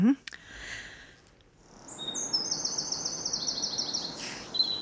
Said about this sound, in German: So hört sich zurzeit frühmorgens an, die Balzgesänge der Vögel im Frühling.